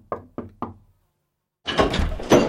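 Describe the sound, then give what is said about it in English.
Three quick, evenly spaced knocks on a wooden door, crisp. After a second of silence, a louder, sustained rushing, scraping noise takes over. “They knocked on the palace door.”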